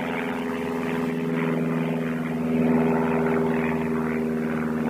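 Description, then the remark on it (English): A small propeller plane drones steadily, its low engine hum carrying a buzzy harmonic tone that swells slightly louder midway through as it passes over. No one speaks. “He's probably going to Indian Creek on the Middle Fork. It's an airstrip there.”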